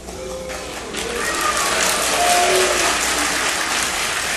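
Audience applause swells and holds steady, a dense wash of many hands clapping at once, moderately loud with a few faint scattered voices mixed in.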